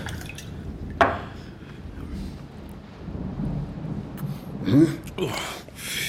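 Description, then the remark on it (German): Old Jamaican rum, 50 years old, glugs and splashes neat into a glass, with a sharp clink early on and a louder burst of pouring near the end over a low, murmuring background. “Aber wenn Sie bloß was trinken wollen, dann rate ich Ihnen zu meinem alten Jamaika-Rum.”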